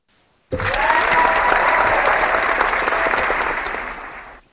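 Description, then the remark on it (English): Loud, sustained applause from an audience starts abruptly and continues steadily for several seconds as a dense wash of many hands clapping, then cuts off. “It's so delayed, like, I turn away, and you guys are still clapping.”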